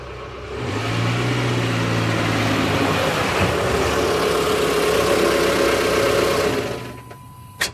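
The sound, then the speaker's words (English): A car engine idles with a steady, low rumbling drone for several seconds, then fades out, followed by a brief sharp click near the end. No one speaks. “She grabbed a gun, just in case, and had a friend drive her to Lexington.”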